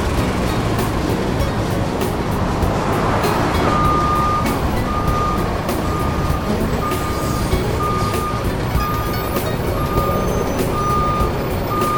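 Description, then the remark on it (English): A large cement delivery truck idles with a heavy, rumbling engine while its backup alarm beeps steadily in a regular, repeating pattern as it reverses up to a new sidewalk area. “You could pull up your truck as close to the new sidewalk area as possible.”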